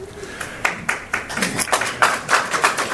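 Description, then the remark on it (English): Scattered audience applause after a speech line about consolidating local and county government pension funds: many sharp, irregular hand claps overlapping at a moderate level, building slightly in density and loudness over a few seconds, with no voices. “The only applause line.”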